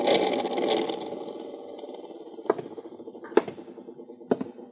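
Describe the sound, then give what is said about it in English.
An overhead ceiling fan, just switched on in a stuffy room, runs with a steady, buzzing motor whir that starts louder and then settles, while sharp clicks tick about once a second in the later half. “I'll turn on the overhead fan.”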